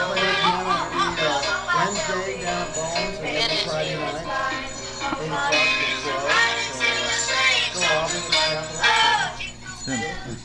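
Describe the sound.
Jingle Bells played on a piano at Christmas while several family members sing along loudly, the mix of melody and singing steady and lively across the whole stretch, with a brief dip near the end.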